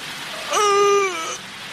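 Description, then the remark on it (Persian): A steady roar of rushing flood water in an audio drama fills the whole clip, with a brief, high wailing cry rising over it near the middle before fading back into the constant wash. “رالا بخی که سیل آمد.”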